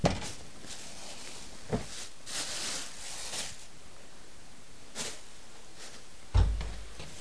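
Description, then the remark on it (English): A young girl shuts a door, which swings shut with one solid, low thud near the end. Before it come a couple of small knocks and soft rustling against a quiet background hiss. “Are you shutting the door?”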